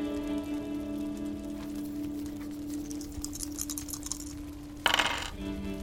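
Three dice rattle and clatter in a quick burst of clicks as they are rolled for a conflict resolution roll, then land with a sharper knock against a low steady hum. The sound is fairly quiet, with no talking.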